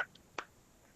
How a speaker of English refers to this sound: And then when you get there, clap your hands.